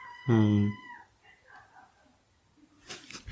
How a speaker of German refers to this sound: Dieses Quietschen, was hier im Hintergrund ist, sind die Katzen, die gerne raus wollen. Das müssen wir jetzt mal kurz offenlegen. Wir nehmen, weil Weihnachten und so, nehmen wir gerade bei mir zu Hause auf.